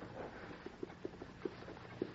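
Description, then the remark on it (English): A white horse's hooves clip-clop in a slow, uneven rhythm, soft thuds that grow a little louder over a hushed background with no talking. “Look at that white horse.”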